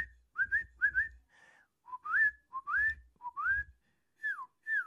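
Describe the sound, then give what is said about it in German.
A person whistles an imitation of a song thrush, short rising and falling phrases repeated in pairs with brief pauses between them, clear and fairly high-pitched, with no talking. “Die eine ist von der Singdrossel, die kann man schön nachpfeifen.”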